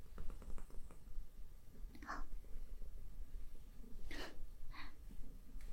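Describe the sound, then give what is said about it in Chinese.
A cat purrs in a steady, low rumbling drone as someone comes near it, broken by a few short snuffly breaths or snorts. Nobody speaks. “他好像很喜欢你啊，你一靠近，他就开始打呼噜。”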